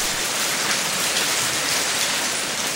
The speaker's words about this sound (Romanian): Dar ploaia nu se lăsă.